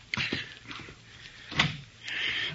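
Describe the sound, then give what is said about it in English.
A door is opened: a sharp latch click, a few soft knocks and a louder clunk, then a steady low rush of air or movement, with no talking. “Get the door”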